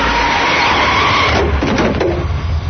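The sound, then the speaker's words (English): A car whose brakes don't work skids with a loud, sustained tire squeal that wavers in pitch over a roaring engine as a truck comes the other way, followed by a few rough scraping bursts near the end. No one speaks. “It's just the brakes don't work, and a truck is coming the other way, and is it just the car, or is it the ghost?”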